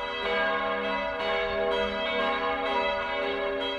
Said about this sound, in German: 2 Jahre vor der Weihe wurden bereits 3 Glocken im westfälischen Gescher gegossen, die die Namen Christus, Maria und Petrus mit entsprechenden Inschriften tragen.